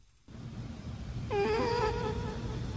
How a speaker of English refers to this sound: The next radio video is some guy puts a microphone to his cat snoring. Okay. Puts a little reverb on it, but.